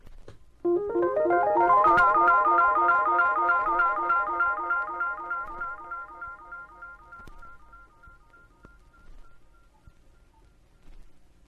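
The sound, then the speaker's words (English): Rhodes electric piano notes played through an Echoplex tape echo, each note repeating in quick, regular steps that blur into a shimmering, bell-like cascade, slowly fading over several seconds with no voices. “And here's the sound with the Echoplex.”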